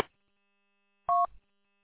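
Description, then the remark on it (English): A single short touch-tone keypad beep, like one telephone dialing tone, rings out clearly on its own after near silence, followed by a soft low thump. “He's either in the car wash or he's got a phone call. Because we get a phone call, and we were wrong.”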